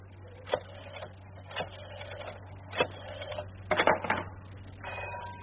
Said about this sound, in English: I watched the engineer yesterday when he tested the phone after installing it. He dialed 3 digits, put it down, and it rang. I simply remembered the digits that he dialed, and did likewise.